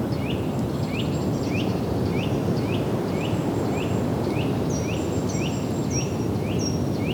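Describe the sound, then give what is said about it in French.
Steady wind roars outdoors above Lake Cousseau and a vast marsh under a greying sky while a bird repeats a short chirping call about every half second, with higher thin whistles from other birds joining in the background. No one speaks. “Du vent, des oiseaux.”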